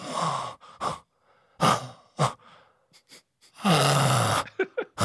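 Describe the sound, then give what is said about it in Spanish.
A voice imitates a pug's snoring with a run of raspy, snorting breaths, several short ragged bursts and two longer throaty rasps, fairly loud, with no words spoken. “Oigan, una vez tuve sexo con un güey que roncaba como pug. Como de...”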